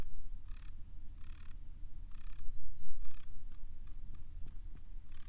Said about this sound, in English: Stomping. Huh. All right. Well, that's what a horny wolf spider sounds like, everybody.